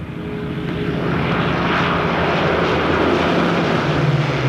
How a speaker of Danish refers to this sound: Hans søvn bliver pludselig afbrudt af en høj brummende lyd. Han rejser sig fra sengen og går hen til vinduet. Flere militærfly med hagekors malet på halefinden brager lavt hen over himlen i det sønderjyske luftrum.